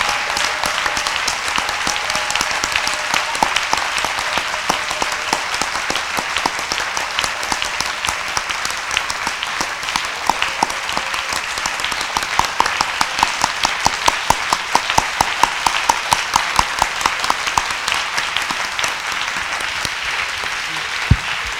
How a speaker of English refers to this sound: Clamer notre Dieu. That is the second reason why we are going to clap our Lord. Pour ce 36e jour de for bataille. This 36th day of the battle. Acclame alors. Oh, now you can clap. You've understood why.